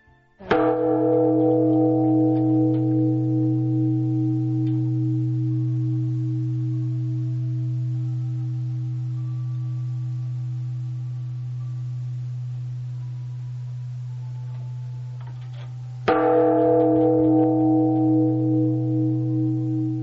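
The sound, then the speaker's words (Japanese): The large time bell of Jōon-ji temple in Tanabe is struck twice, about fifteen seconds apart. Each deep, booming strike leaves a long, humming resonance that slowly fades, with no voices. For about 150 years it told the town's time at 6 a.m., noon, 6 p.m. and midnight; its sound is unchanged from about 300 years ago. “凛とした空気を震わす鐘の音、心が洗われませんか？約300年前と変わらぬ鐘の音です。”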